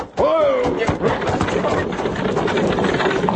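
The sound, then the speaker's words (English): Loud galloping of a runaway horse team pulling a buckboard wagon through a town at night, a steady rush of pounding hooves and rattling wagon noise, with a brief high cry or whinny near the start. “If I know anything about horses, that team's running away.”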